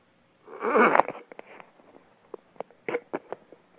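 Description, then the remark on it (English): A single harsh, raspy throat clearing bursts out, then trails into a scatter of faint short clicks and small mouth noises. No one speaks. “Yeah, I heard you clear your throat, so I thought you were about to speak, so I stopped the question.”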